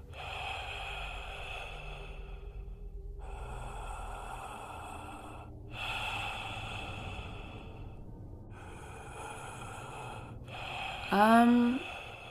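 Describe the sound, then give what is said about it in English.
Slow, heavy breathing with a muffled, hollow quality from a man in a mask standing on a lawn in the dark: about four long, steady breaths, ending in a brief, sharp voiced gasp. “All I hear are the crickets screaming in the dark bushes, and the man in the mask breathing slowly.”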